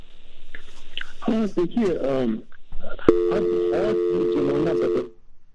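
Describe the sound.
A steady, droning phone line tone cuts in suddenly during a phone-in discussion with a guest on the line and holds for about two seconds, fairly loud, while people keep talking over it and before it.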